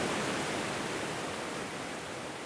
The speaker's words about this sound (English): There is a beautiful, beautiful waterfall.